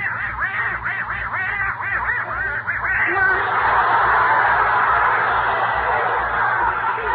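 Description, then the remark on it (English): A little duck named Herman, in front of a fireplace on the night before Christmas, quacks in a rapid, steady string of nasal calls, then shifts into a continuous harsh, raspy squawking that runs to the end. Fairly loud, with no talking. “Only Gracie and Herman, their little duck, are still downstairs in front of the fireplace.”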